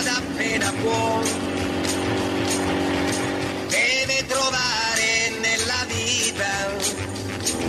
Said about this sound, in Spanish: Una moto en ruta.